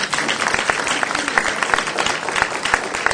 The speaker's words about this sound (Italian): però questa sera davvero sei stata meravigliosa, un applauso ancora.